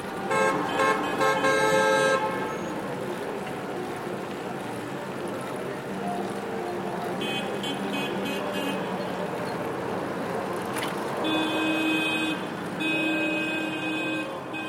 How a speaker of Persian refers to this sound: رکاب زنان در میان بوق‌های سرسام‌آور و خیابان‌های همیشه شلوغ دهلی راهی خانه فرهنگ می‌شیم.